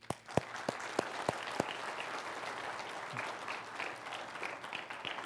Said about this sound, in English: I'd like to give our teens and those who contributed money a round of applause.